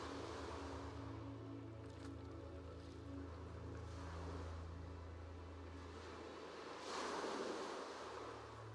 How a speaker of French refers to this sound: Au loin, le murmure des vagues.